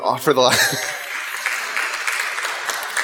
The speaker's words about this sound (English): I wasn't expecting applause, but wow, that'll go to your head.